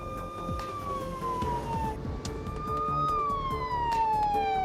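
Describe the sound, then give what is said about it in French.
A loud ambulance siren wails continuously over steady traffic rumble as the ambulance transfers a patient to the University of Alberta hospital. Its pitch slides slowly down, then rises and falls again. There are no voices. “Dans l'ambulance, les auxiliaires médicaux la mettent sous oxygène et sédatifs pour soulager ses douleurs.”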